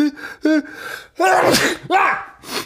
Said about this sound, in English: So I'm about to sneeze. I'm going to die. Oh my God. Do I sneeze? Do I pause it?